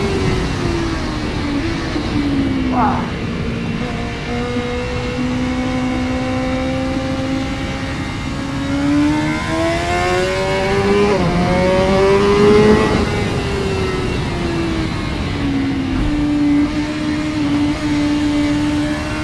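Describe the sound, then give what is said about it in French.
A car engine revs and accelerates through the gears, its harmonic whine rising and dipping repeatedly, loud throughout with steady road and wind noise underneath. “Vraiment une machine impressionnante.”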